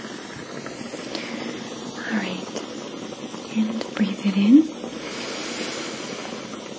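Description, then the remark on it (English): A facial steamer hisses steadily and softly throughout, a constant airy rush, held at a safe distance from a person's face and moved from side to side, while a gentle, quiet voice speaks briefly over it. “I'm going to hold steam.”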